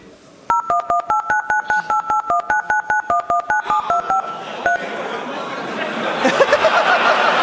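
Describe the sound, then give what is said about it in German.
A rapid run of about twenty telephone keypad tone-dialing beeps from The Big Bang Theory, short and evenly spaced at varying pitches, played as a quiz question, followed by laughter and chatter. “Genau, welche Nummer war das? Spiel noch mal ab, vielleicht weiß das Publikum.”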